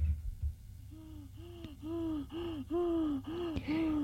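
Labored, rattling gasps of a dying man lying in bed, suffocating after his tubes were disconnected, repeat in a steady rhythm, about seven strained voiced breaths in quick succession, fairly loud, with no talking around them.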